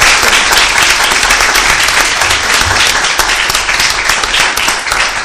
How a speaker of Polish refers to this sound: Wielkie brawa. Wielkie brawa.